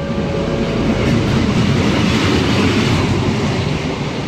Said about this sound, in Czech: Vážení cestující, osobní vlak ze směru Praha-Smíchov přijede ke druhému nástupišti na třetí kolej.